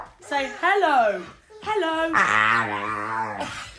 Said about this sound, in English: And the other thing that's hilarious is because these are British people, the dog has a British accent when the dog says hello. Ooh. So here we go. Dog saying hello.